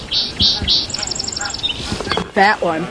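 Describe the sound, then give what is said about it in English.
A song sparrow sings in spring at the edge of grasslands in a recreation area: three bright, clear opening notes followed by a quick trill and a short buzzy ending. A person starts talking just as the song finishes. “That's a song sparrow.”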